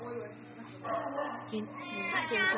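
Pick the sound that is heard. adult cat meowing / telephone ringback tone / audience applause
adult cat meowing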